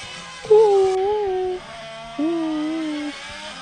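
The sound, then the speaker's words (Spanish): A Formula E electric race car doing donuts: two bursts of high, warbling electric motor whine, each about a second long, rising then gradually sagging in pitch over a faint steady hum. “Es un Fórmula E dando vueltas a una dona, o sea, está haciendo donas.”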